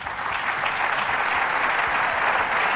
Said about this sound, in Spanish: Venga, y todos ahí aplaudiendo, ¡bravo, bravo!